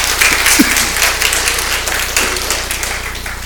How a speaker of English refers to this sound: All right, give them all a round of applause this morning.